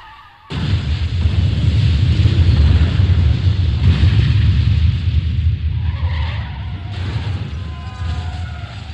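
A car skids and crashes into a tractor on a sunny day, with a sudden loud burst of rumbling, scraping noise that stays intense for several seconds, with thin squealing tones surfacing near the end. No voices.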